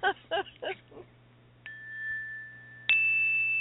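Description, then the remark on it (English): A few quick bell strikes followed by two separate clear dings, each leaving a sustained ringing tone that hangs in the air; moderately loud, with no talking. “Hi, there's three bells.”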